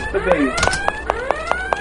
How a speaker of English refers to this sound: Okay, now there's a door, and that object beeping means there's a door. Now, if I press Control-O, it will give me the name of the object.